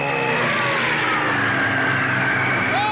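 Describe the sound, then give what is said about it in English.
A helicopter engine drones loudly and steadily throughout, its whining tone sinking gradually in pitch as the craft descends toward a black touring car driving eastbound on the parkway, with no voices over it. “That's the beauty of this copter.”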